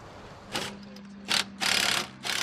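Someone unscrews fasteners from a boarded-up door: four harsh, buzzing bursts of a power driver, short then longer, cutting in and out over a steady low hum, with no talking.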